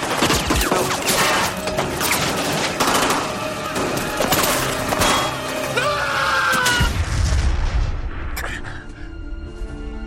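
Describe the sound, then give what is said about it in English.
A loud, chaotic explosion scene from a TV action drama, a suitcase bomb going off in Los Angeles: dense crackling bursts and blasts, then a deep rolling rumble that fades out, with voices faintly mixed into the turmoil. “4 frightening roller coaster hours later, another explosion rocks L.A.”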